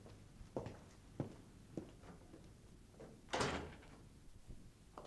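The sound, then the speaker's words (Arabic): A few soft, evenly spaced footsteps, then a door opens with a brief scraping whoosh, followed by quieter shuffling sounds. No one speaks. “سيدي المهندس راه عند الباب ينتظر فيك.”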